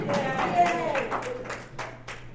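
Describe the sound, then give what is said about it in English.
An audience applauds the president of the Hibernians with steady, overlapping claps that form a sustained wash of sound, with faint voices murmuring underneath. “First of all, a round of applause for him because he's a wonderful president of the Hibernians.”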